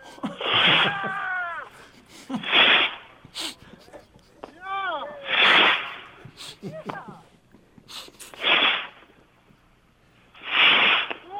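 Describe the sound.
Several bottle rockets shoot off one after another at a New Year celebration in Berlin, each a loud rushing hiss, some with a falling whistle. Soft voices can be heard in between the launches.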